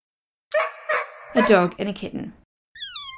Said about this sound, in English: He placed them on the porch of the Anglican church, the one that used to stand at the corner of Seymour Street and Church Street. The kitten and dog were not great friends. The dog started barking and the kitten bolted off into the sanctuary of the